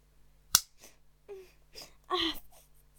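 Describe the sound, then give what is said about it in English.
A single sharp, loud smack of a slap to the face, followed by a few breathy, pained gasps and a short whimpering cry, with no words spoken. “Nobody has ever slapped my face before.”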